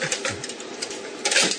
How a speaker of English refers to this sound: You can hear the salt shaker.